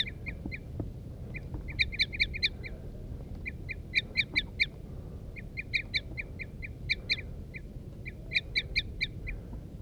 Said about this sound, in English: The birds are too chittering now. There they go. The wild birds are taking off now.